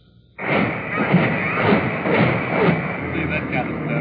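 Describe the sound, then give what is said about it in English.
A continuous, rumbling roar of heavy naval gunfire from the battleship Missouri and other big guns of the UN armada pounding hills above a beach in Korea, with dull booms thudding every half second or so over a thick wash of noise, a sustained barrage. “As the Missouri pounded away at the hills above the beach, other big guns of the UN armada joined the barrage”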